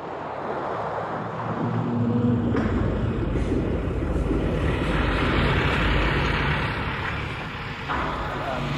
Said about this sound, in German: Fast genauso klang der LKW.